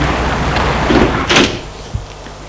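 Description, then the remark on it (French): A butler shuts the door of a house: a brief scraping slide, then a solid thud and a small latch click. The sound stands alone over a low steady hum, with no voices. “Le maître d'hôtel ferme la porte.”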